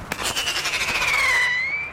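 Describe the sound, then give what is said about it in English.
A sharp pop from a cap gun launches a screaming rocket into the night air, its shrill, hissing whistle wavering and slowly sinking in pitch for nearly two seconds, loud with no voices. “Screaming rockets shot off from a cap gun zigzag into the night air.”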